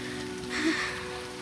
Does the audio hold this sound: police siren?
no